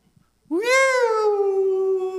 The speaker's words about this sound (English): I forgot to silence my phone. And so those of you who know me, you know the sound that my phone makes when I get a text.